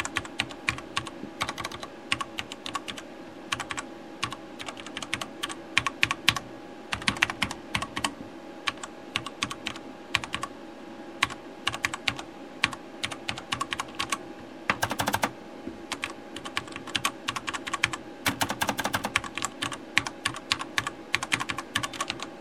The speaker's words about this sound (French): Il vaut mieux que je fasse le test du côté numérique. Vous aurez quand même l'occasion d'entendre le bruit de la mécanique de ce putain de clavier. Allez, on y va.